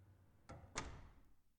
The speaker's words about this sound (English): Here. Now the door's closed. No one will bother us now.